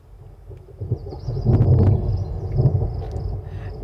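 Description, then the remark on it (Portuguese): A summer rain soundscape played by the relaxation system of an EQS car: a steady wash of rain noise over a deep rumble that swells in the middle, with faint high chirping tones drifting above. No one speaks. “Você coloca aqui, daí vai vir uma chuva de verão, ó.”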